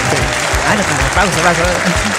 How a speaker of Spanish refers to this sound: Aplauso por un ratito nada más, porque mira.